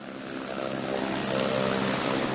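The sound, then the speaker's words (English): The engine of a small 8-seat jet airplane drones steadily in flight over a muddy brown river, a dense, continuous roar with faint humming tones running through it and no voices. “Governor Danche Martins de Oliveira from the Brazilian state of Mato Grosso pauses as he looks down at the muddy brown river through the window of an 8-seat jet airplane.”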